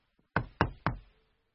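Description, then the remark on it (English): Three firm knocks on the wooden door of an ogre's castle as Puss in Boots knocks, evenly spaced, each a sharp thud with a short resonant decay, with no voices. “He knocks on the door.”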